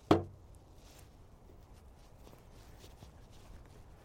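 A single sharp wooden knock as a wooden box is rapped once against the trunk of a pine tree, followed by several seconds of faint low background noise and a few soft ticks.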